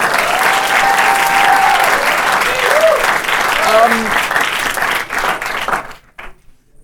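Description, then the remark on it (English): An audience in Atlanta, Georgia breaks into a sustained round of applause welcoming three university student guests, dense and loud for several seconds, with faint voices mixed in before the clapping tapers off and cuts out. “Audience, give them a round of applause.”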